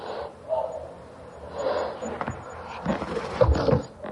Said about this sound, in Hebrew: אוי, מה בלון עשה? התפוצץ. התפוצץ הבלון, האוויר יצא מהבלון.